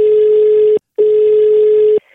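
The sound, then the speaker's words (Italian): A telephone line tone sounds as two long, steady electronic beeps, the first cut off by a brief silence before the second continues, clear with no voices. “andiamo subito al telefono, vai Ciccio, vai!”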